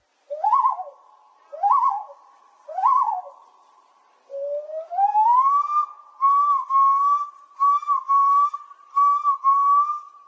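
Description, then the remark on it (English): A person imitates a common loon at a loon calling competition at the National Loon Center in Cross Lake, Minnesota: three short, arched whistled hoots, then a long rising wail that levels off into a string of wavering, yodel-like notes, with no talking. “Each year, adults and children gather in Cross Lake, Minnesota, to celebrate the incredible sounds of the common loon, the state bird of the land of 10,000 lakes.”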